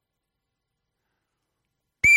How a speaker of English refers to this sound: Blow the whistle.